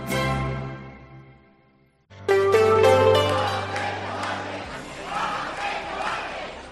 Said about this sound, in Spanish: Ante la sede del PSOE en la calle Pedro Coca, cerca de 200 personas se dejaron escuchar este lunes con gritos en contra de la amnistía a los condenados por el procés de Pedro Sánchez también y de Emiliano García Page.